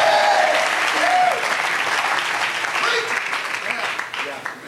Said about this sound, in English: Clap your hands and make a joyful noise unto the Lord. Somebody say yes. Somebody say yes.